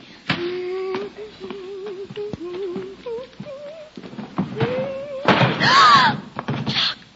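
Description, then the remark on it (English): A treasure cupboard door, opened while dusting, creaks open in long, wavering squeaks broken by a few sharp knocks, then a louder clattering crash near the end as a jug of precious water is knocked over and broken. “she opened the door to the treasure cupboard.”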